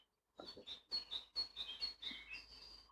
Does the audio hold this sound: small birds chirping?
yes